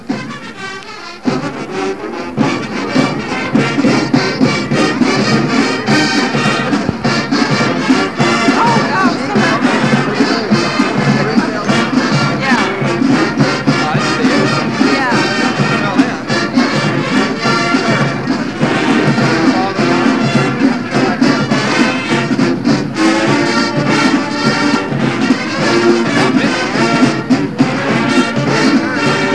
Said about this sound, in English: crowd's starting to applaud. Listen. The applause. I guess you heard the applause.